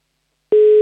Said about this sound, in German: Ah, läuten tut's. Gut.